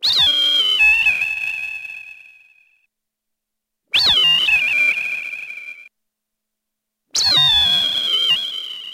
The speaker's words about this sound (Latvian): Mēs pārsvarā izmantojām tomēr putnu kliedzienu dažādas kombinācijas, kas speciāli ar speciālu datorprogrammu tika sintezēti. Tie nav īsti ieraksti, tās ir sintezētas skaņas speciālā veidā, kas visu laiku varējās un neļauj putniem saprast, kas tas ir.